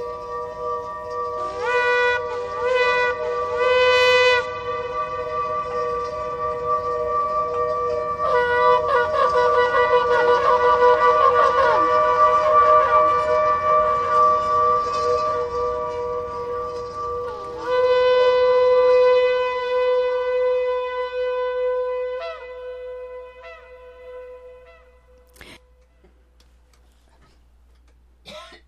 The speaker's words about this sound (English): That's the sound of the shofar and Tibetan bells, Tibetan bowls, rather. And the shofar is blown. That's the ram's horn.